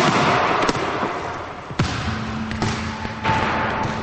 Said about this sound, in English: Jack frowns and throws the basketball as hard as he can against a wall.